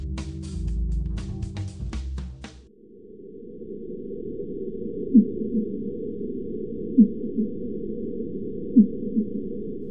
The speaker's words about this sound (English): You're listening to the call of a fin whale in the western North Atlantic Ocean. Recorded with ocean bottom surveillance microphones by the U.S. Navy, the sound has been sped up by a factor of 10 to make it audible for human ears.